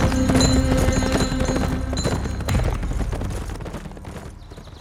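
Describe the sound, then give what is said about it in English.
Several horses carrying a group of riders gallop off, their hooves pounding in a rapid, rumbling rhythm that starts loud, then gradually fades as they move away. No one speaks. “An hour after sinking their escape boat, Victor Spector and his partners rode off without a trace.”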